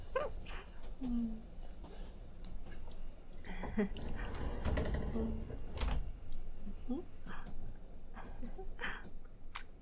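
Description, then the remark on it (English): A small car's door is pulled shut with a single solid thump, surrounded by rustling and shuffling movement, with faint, muffled voices murmuring. “Okay, you can get the door from here.”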